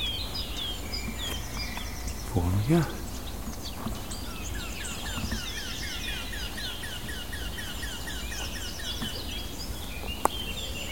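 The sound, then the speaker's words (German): Outdoor birdsong with clear, bright warbling phrases of a blackcap and a run of hard, repeated clicking alarm calls of a warbler. A brief low voice speaks near the start. “Hellen Töne der Mönchskassmücke. Die harten Warnrufe der Grasmücke.”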